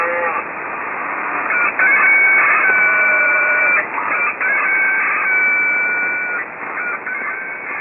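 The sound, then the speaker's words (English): A rooster from Radio Botswana crows loudly, a string of long, strained cock-a-doodle-doo calls running almost back to back with no voices present. “Our rooster friend from Radio Botswana is also going to be part of a new time station in Peru.”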